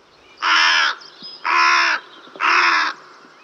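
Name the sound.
carrion crow cawing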